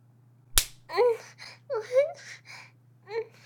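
One sharp slap of a person cracks out near the start, followed right away by a string of high, wavering vocal sounds like whimpering or babbling against a low steady hum.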